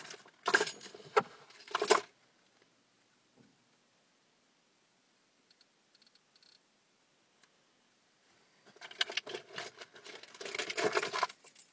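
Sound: keys jangling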